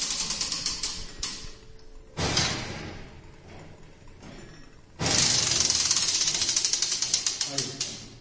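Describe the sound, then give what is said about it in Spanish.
The machinery of the Puerta del Sol clock, heard from inside its clock tower, ticks and clatters with a steady run of sharp metallic clicks and ratcheting, swelling into louder, denser mechanical rattling in two bursts before easing again. “Así suena la maquinaria del reloj de la Puerta del Sol por dentro, en la misma torre del reloj al que se accede por una angosta escalera de caracol.”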